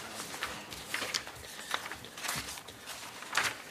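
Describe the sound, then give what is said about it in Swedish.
Papers rustle and shuffle as a stack is gathered and set down at a municipal council meeting, a series of soft, crisp bursts with brief pauses between them and no talking. “Nu ska vi se om jag kan få ner alla papper här.”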